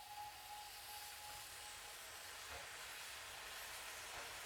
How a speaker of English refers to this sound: Back on board with their newly captured prize, the off-brake signal was given, and the train chugged its way to the town of Yale.